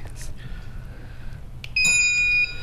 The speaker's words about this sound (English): The buzzer.